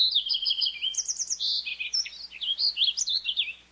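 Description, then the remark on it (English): A fox sparrow sings a rich, varied song of clear whistled notes and quick trills, rising and falling in pitch, continuous for several seconds with no talking. “Add a birdbath or two close to the dense vegetation, and these shy birds can emerge from a thicket to bathe or drink and then dart safely into cover in an instant, and they'll repay you with their beautiful songs, like those of a fox sparrow.”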